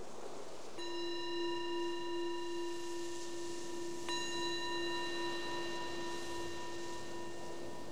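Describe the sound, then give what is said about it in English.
A meditation bell is struck twice during a guided meditation, a few seconds apart, each strike leaving a clear, sustained ringing tone that hangs and slowly fades. No one speaks. “Bell is your invitation to transition from whatever you were doing, usually the outward focused, to just bring the awareness inward to this mind and this body.”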